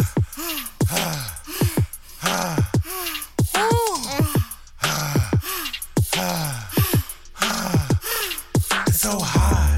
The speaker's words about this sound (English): you're panting.